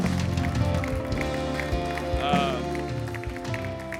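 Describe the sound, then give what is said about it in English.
An audience claps their hands for Jesus after a prayer, in a steady, dense wash of applause lasting several seconds, mixed with voices and a sustained musical tone underneath. “Come on, give Jesus a huge hand clap right there.”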